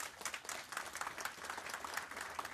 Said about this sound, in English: gentlemen, another round of applause for ….